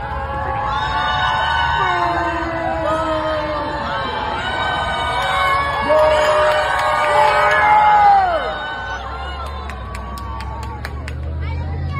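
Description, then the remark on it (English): A group of people outside across the road shouts and cheers, many overlapping voices yelling "Tell the truth" and whooping, swelling louder around the middle before easing off into a steady murmur. “But there's a group of people like outside across the road because they have to be. And you can hear them yelling, "Tell the truth."”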